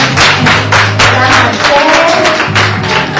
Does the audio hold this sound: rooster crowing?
no